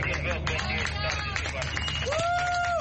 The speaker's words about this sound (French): Des applaudissements ont fusé alors que des migrants débarquaient du navire de secours affrété par SOS Méditerranée et Médecins sans frontières.